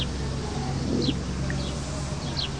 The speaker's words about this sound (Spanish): Escuchar los pájaros que marcan la hora del atardecer, cuando el sol declina y ya pronto viene el crepúsculo y luego la noche. Ya se está aquietando el canto de los pájaros que van a descansar.